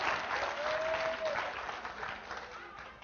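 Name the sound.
audience applauding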